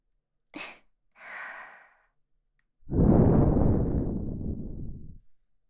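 Breath blown into the ear: two quick soft puffs of air, then a long, loud, rushing exhale lasting over two seconds, full and low, slowly fading at the end. No talking.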